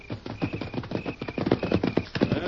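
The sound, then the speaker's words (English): Horses' hooves clip-clop in a quick, steady rhythm, growing slightly louder as they approach, with a faint high tone running intermittently beneath the hoofbeats; the horses, Silver and Scout, are coming after being called. “Here's our horses.”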